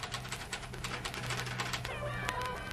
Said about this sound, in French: Les crépitements des machines à écrire d'à côté.